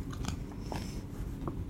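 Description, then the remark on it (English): Crisp crunching on raw carrots, a few sharp bites followed by steady chewing, with brittle cracks breaking through a low, constant rumble. No one speaks. “And now my dog is like, why are you eating them and not me?”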